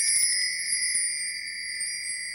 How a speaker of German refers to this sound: Unsere Adventskalenderglöckchen, die klingeln heute